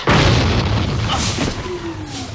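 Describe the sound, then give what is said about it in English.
A heavy crash of debris falling onto a volcano floor hits hard at the start, then a loud rumbling roar carries on with scattered thuds and clatters before slowly easing off. “Debris smashes onto the volcano floor.”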